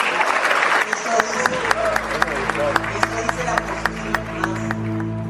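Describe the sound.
An audience of young people applauds steadily for the full five seconds, dense overlapping claps at an even loudness, with a faint murmur of voices running underneath.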